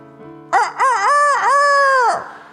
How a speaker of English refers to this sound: The eagle grew up doing what chickens do, living like a chicken and believing he was a chicken. Cluck, cluck.